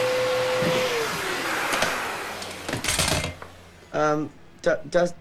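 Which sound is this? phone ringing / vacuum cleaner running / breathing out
vacuum cleaner running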